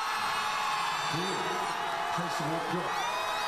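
A large crowd in South Korea roars and cheers as the National Assembly approves, in a 204-85 vote on a Saturday, the impeachment motion against President Yoon Suk-yeol, a steady, dense wash of noise with scattered individual shouts and whoops rising above the din throughout.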